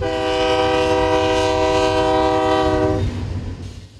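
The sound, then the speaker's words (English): A freight train's horn blares in a long, loud, steady chord for about three seconds, then cuts off, leaving the low rumble of rolling cars. “Much of the crude oil leaves the area by train, but several accidents have raised concerns about the method of transportation and the oil itself.”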